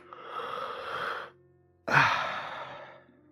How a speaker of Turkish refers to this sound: Ağzını müthiş bir surette açıp esnedi.